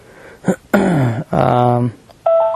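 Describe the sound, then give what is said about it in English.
A person talks briefly, then a short, steady electronic beep sounds at the end as a tape measure with a memory function turns itself off, a clean mid-pitched tone lasting about a third of a second. “turned itself off. That's what that little beep was.”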